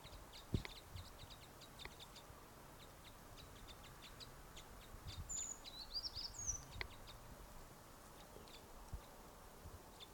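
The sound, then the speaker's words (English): A flock of small birds calls softly, a scatter of brief high chirps and tweets overlapping throughout, with a couple of sharper high notes near the middle and one bird giving an alarm call, over a quiet outdoor background. “There's the calls of the flock.”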